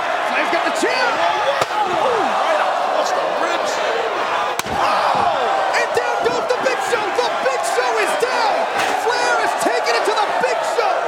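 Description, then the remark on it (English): A folding chair shot in a wrestling match, not to the head: two sharp, hard smacks a few seconds apart ring out over a constant roaring arena crowd that keeps yelling and cheering throughout. “Let's track this chair shot here.”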